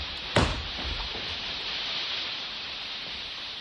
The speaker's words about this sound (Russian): О, дождь! Бежим, бежим скорее к нам.